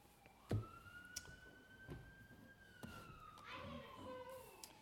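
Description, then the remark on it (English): An ambulance siren wails in a long, slowly shifting tone as it rolls past, fading beneath scattered knocks and faint voices. “I hear that siren too.”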